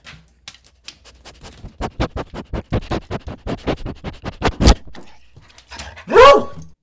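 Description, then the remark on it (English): Rapid, rhythmic scratching at a surface fills several seconds, ending in a single loud dog bark with a tonal whine to it. “Even Buddy, Lady, or in this case, Ruby, can be an eager and willing ally in protecting your space.”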